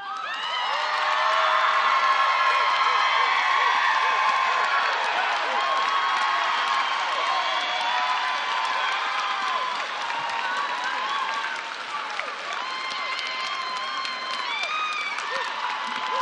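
A large convention crowd yells during a voice vote on a minority report about superdelegates, all at once, a dense roar of overlapping voices that stays loud for the whole stretch, with scattered higher-pitched whoops cutting through.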